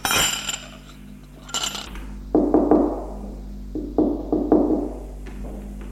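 impact, knocking on a door

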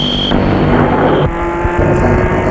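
vehicle, car driving away

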